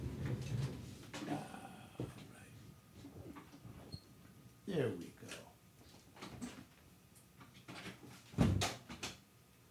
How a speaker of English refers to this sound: Wait a minute, let me close this door.